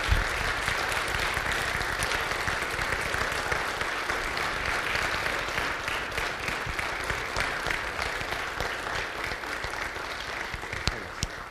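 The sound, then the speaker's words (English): A crowd claps steadily and enthusiastically in response to a call to give a clap for what God just did, a dense, sustained wash of hand claps that holds at an even loudness for around eleven seconds with no voices standing out. “Before I say anything, come on, just give a clap for what God just did.”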